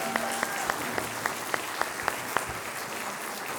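An audience applauds a choir, a steady wash of clapping with a few sharper, evenly spaced claps standing out over the first couple of seconds before blending into the crowd's sound.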